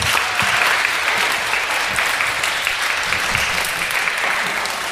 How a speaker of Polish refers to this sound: Jeszcze raz dla wszystkich olbrzymie, olbrzymie brawa!